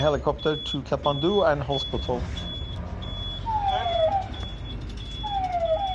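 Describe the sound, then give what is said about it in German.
An ambulance siren wails in sweeping, falling tones over steady road noise from inside the ambulance as it drives through Kathmandu. A high beep repeats, and voices talk briefly at the start. “Auch die Fahrt durch Kathmandu mit dem Krankenwagen.”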